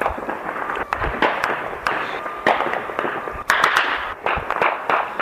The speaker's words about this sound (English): In the background, you can hear gunshots early morning of 1st January 2016.